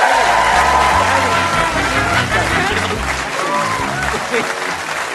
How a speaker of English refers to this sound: So, will you please give a massive round of applause to my guest, Sarah Milligan, ladies and gentlemen?